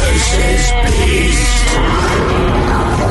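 insect, buzzing bee sound effect

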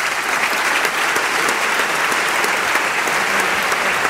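crowd, parliament applause

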